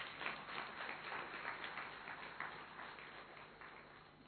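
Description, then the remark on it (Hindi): A crowd applauds steadily, a dense wash of many hands clapping at once that holds fairly loud throughout and tapers slightly toward the end, with no talking over it. “तो सुंदर रचना को देखकर ताली बजाओ जरा अच्छी तरह से।”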